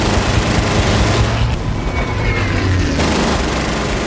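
Dense, loud battlefield gunfire from the Dunkirk battlefield in Christopher Nolan's Academy Award-nominated World War II movie, with continuous crackling bursts and heavy low rumble filling the whole stretch, shifting in texture partway through as if the scene cuts.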